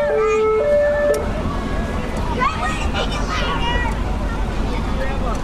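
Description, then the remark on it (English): A vintage ambulance siren blares briefly in two steady stepped tones at a parade, then cuts off into loud rumbling background noise with indistinct voices murmuring. “This is like a vintage ambulance. This is a vintage siren right here.”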